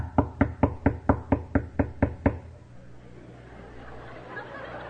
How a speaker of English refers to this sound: And suppose I knocked on the door in their room.